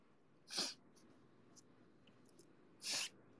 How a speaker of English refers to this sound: Sniff, sniff, sniff.